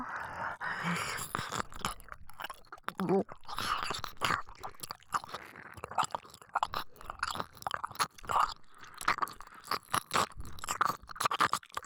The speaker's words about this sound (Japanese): こうやって耳の奥もしっかり舐めますからね。